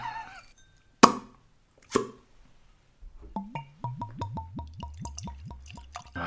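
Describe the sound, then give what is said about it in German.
Two sharp clicks as a new bottle is opened, then an amber-coloured drink pours out in a quick, steady run of hollow glugs that continue to the end. “Ein Gießgeräusch bei neuen Flaschen.”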